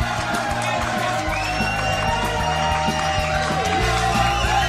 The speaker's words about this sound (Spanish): Aquí estamos, muy buenas noches. Ahora sí, señoras y señores, aplausos y gritos de ovación.